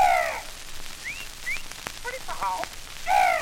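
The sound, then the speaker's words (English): A human voice imitates a South American parrot: two loud, harsh squawks bracket a run of quick whistled chirps and clicking noises, all clear, with no talking. “And the wonderful South American parrot.”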